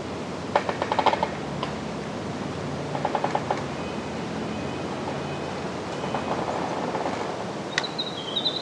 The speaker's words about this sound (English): You are listening to trees creaking in a mixed forest at Till's Point in Penobscot, Maine.